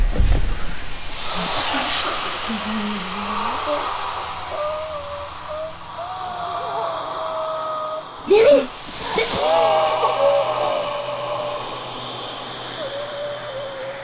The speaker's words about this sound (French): T'entends? C'est quoi? C'est rien, c'est juste le vent.